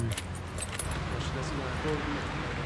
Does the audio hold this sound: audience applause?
no